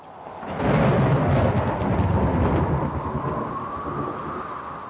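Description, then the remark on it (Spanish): A deep roll of thunder swells in after a moment and rumbles on over a steady roar of torrential rain during a storm in the Czech Republic, loud, with no voices. “tormentas, lluvias torrenciales y granizo caracterizaron el tiempo en la República Checa durante el pasado fin de semana”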